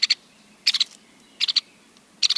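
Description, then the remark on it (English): A white-headed woodpecker gives its sharp, high double call, repeated in four quick bursts of clipped notes spaced about half a second apart, clear against a quiet background. “They're quiet birds, not always obvious, but listen for their double call.”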